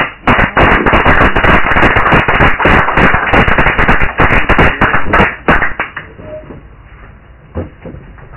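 An audience claps steadily for about five seconds to welcome a performer, a dense crackle of many hands, before the applause thins out to a few scattered claps and fades.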